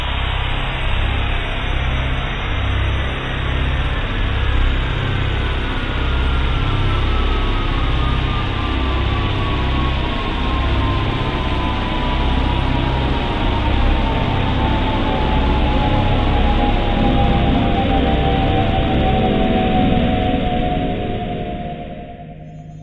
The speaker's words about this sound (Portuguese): O universo surgiu em uma explosão tão grande que deixou um rastro que pode ser sentido até hoje. Esse rastro foi detectado, medido e traduzido em sons. Com vocês, o eco do Big Bang.